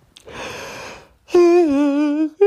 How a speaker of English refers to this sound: Second yawn in a row. Uh-oh.